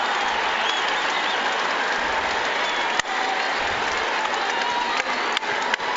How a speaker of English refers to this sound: It's been announced to the crowd, and the crowd responds. Standing ovation for Kyle Collinsworth